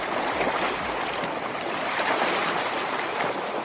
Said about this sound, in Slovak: To je krásny šum. Mora, vody, jazera, čokoľvek, čo si predstaviť.